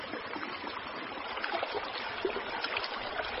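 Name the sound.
flowing stream water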